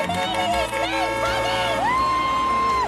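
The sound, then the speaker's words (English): A crowd of children following a Rolls Royce car as it turns into a street, shouting and cheering together, a dense, lively clamor of high voices with one long sustained cry rising above the din, fairly loud. “The car turns into the street, followed by a crowd of children.”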